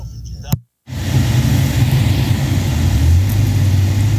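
A car engine rumbles steadily and loudly as the vehicle drives, with a brief dropout near the start and a shift in engine pitch toward the end as the driver shifts gears.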